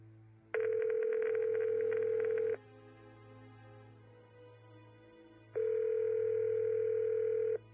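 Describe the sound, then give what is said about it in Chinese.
A phone ringback tone purrs twice, each steady buzzing ring lasting about two seconds with a pause of roughly three seconds between them, over a faint low hum, as a woman calls her mother from her mobile phone. “曲小曼赶紧拿出手机拨通了妈妈的电话”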